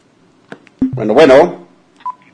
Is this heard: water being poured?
no